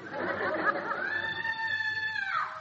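Muffled chatter and laughter give way to a woman's loud, sustained high-pitched scream that holds steady for over a second before cutting off.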